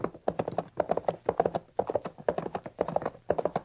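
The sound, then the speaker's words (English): Rapid, rhythmic clip-clop of horse hooves as riders push their horses at a fast gallop through dry, dusty country, steady repeating bursts of hoofbeats, with no voices. “You better ease up. Horses will never stand this pace.”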